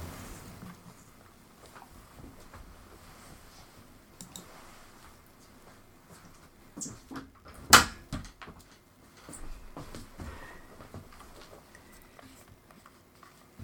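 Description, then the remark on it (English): A door swings shut with one sharp, loud thud about midway through, followed by a few quieter clicks and knocks against a low, murmuring background. “I just want to close the door.”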